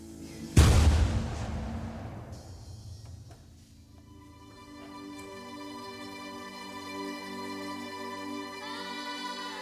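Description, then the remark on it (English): A single loud cannon blast booms outside early on, its rumble slowly fading over a couple of seconds before sustained, layered musical tones take over. No one speaks. “And then suddenly you hear a cannon outside and all these things.”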